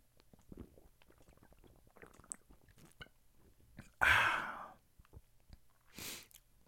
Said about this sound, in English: I'm sipping on some alcoholic beverage right now, so give me 1 second.